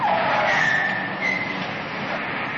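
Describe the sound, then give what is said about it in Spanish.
A car skids hard to a sudden stop as a subway police officer forces it to halt, tires squealing loudly over a broad rushing scrape that lasts a couple of seconds, without any talking. “Obliga a uno a detenerse.”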